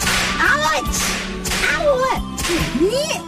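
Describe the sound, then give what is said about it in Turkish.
Three sharp whip cracks, each preceded by a swishing whoosh, snap out loudly at a steady pace over a low background hum. “Abi kırbaçlar mısın diyorlar.”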